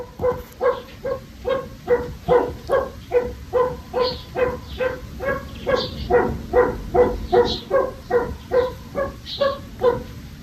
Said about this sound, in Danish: at det er lyden af deres kære fasan